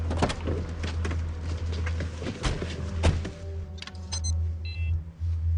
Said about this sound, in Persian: خب ماشین چرا روشن نمیشه؟